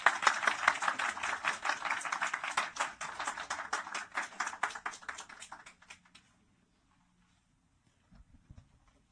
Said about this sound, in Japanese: 皆さん新しい牧師ですので、もともといたんですけど お帰りなさいということで歓迎の拍手をしたいというふうに思います。